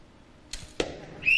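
A shrill, steady referee whistle blast starts at the very end, loud and cut short, signalling time is up in an archery round, after two sharp arrow thwacks about a quarter second apart over a quiet background.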